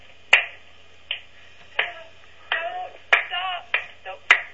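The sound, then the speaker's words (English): A hand slapping a leg roughly eight times in an uneven rhythm, each slap a sharp, loud smack, with a faint murmur of voices between some of them. “Sounds like you're slapping your leg.”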